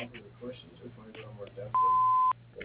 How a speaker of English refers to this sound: Please leave a message after the beep.